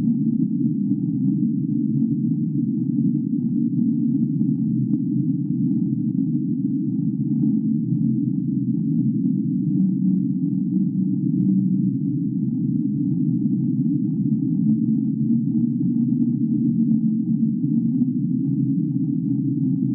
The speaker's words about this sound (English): I like that one. It kind of sounds like something from Alien. That's called Whistle. That's an underwater recording from the NOAA in the U.S. Apparently, they think this one is a volcano, underwater volcano, but they don't have enough data to be sure